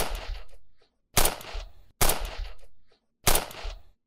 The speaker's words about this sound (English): That's when, without thinking about it for a second, I flicked the safety off the gun, held it up, and shot at the door 4 times before lowering the gun.